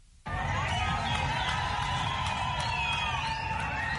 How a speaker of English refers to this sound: Zimbabweans clapped and cheered Wednesday as President Emmerson Mnangagwa accepted 25,000 tons of grain and 23,000 tons of fertilizer donated by Russia.